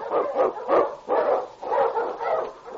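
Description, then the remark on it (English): A husky, the Eskimo lead sled dog King, barks loudly in a quick series of about five rough, howling yelps in a steady rhythm, with no voices or other sounds around it. “Wonder Dog King, swiftest and strongest Eskimo lead dogs, blazes the trail through storm and snow for Sergeant Preston as he meets the challenge of the Yukon.”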